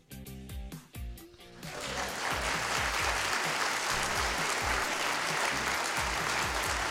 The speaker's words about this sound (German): Mach mal Applaus.